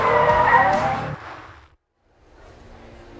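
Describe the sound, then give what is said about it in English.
A car brakes hard, its tires squealing loudly in a drawn-out screech for about a second, then sudden silence before a low engine idle hum resumes. “He's gonna shoot the tires. Stop the car.”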